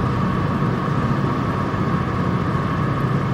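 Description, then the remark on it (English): A medium-sized boat engine drones steadily as the boat goes by, a constant rumbling hum with a noisy mid-range whine that holds at even loudness throughout, with no voices. “There's a boat going there.”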